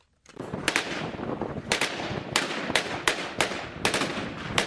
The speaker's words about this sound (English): Gunfire signals the Iraqi federal police troops are pushing deeper into Mosul's old city Sunday as they try to recapture more positions from the Islamic State group.